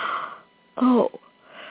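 big yawn

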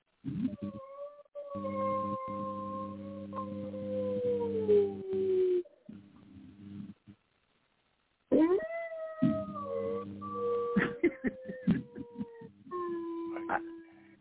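dog howling and whining

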